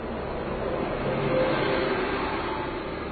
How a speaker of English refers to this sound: And that was a bus passing us, in case it wasn't obvious.